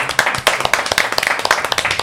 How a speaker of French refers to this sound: On t'applaudit encore très fort, on te remercie.